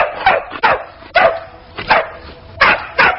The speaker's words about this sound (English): You want to get your dog under control?